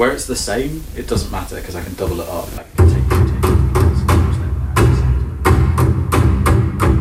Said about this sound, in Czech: Chvílema si ťuká rukou do stolu, většinou když je s výkonem orchestru spokojený.